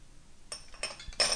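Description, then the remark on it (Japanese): Food that has just been heated in a microwave at 600 watts for 3 minutes is stirred in a dish, with a few scraping clinks of a utensil against the bowl, short bright bursts in an uneven rhythm, fairly quiet, with no talking. “ちょっと味が混ざってないといけないので、全体を簡単に混ぜてあげましょう。”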